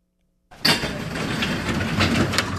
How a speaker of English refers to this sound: pulls open the garage-style door to a storage unit full of wheelchairs, walkers, beds, and bedpans. So this is our long closet, and it's actually pretty clean. This is what's left of hospice care in Juneau.